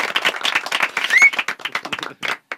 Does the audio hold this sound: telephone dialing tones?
no